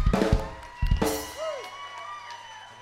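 A crowd breaks into applause and cheering, with loud bursts of noise and whoops early on, a short whistle-like tone, then the clapping and crowd noise fade to a softer, steady murmur.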